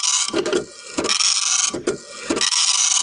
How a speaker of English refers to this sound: Can you determine what it is? Well, I think it's a printer, son of a bitch.